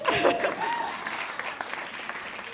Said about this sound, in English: Yay! Another clap for that, please.